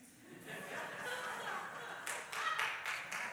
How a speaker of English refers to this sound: I don't think that requires applause, but okay.